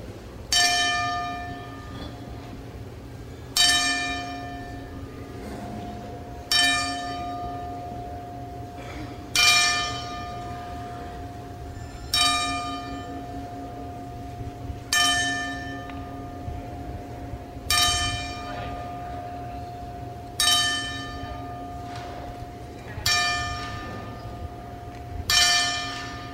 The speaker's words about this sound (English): But all within, once again, you've lost George the Animal Steel, Chavo Guerrero Sr. You've also lost Nicole Bass and now Ivan Koloff. So we're going to play the bells for all four.